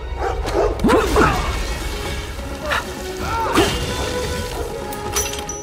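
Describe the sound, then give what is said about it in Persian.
Dogs bark in two short bursts, a quick cluster early on and another a few seconds later, over a noisy background with a few dull knocks. “دفعه بعد به سگاتون قضا بدی.”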